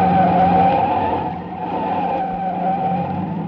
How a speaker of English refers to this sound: He called my name as his car came alongside, then began forcing me off the road. There was only one way out. I whipped my wheel to the right and skidded onto a bridge.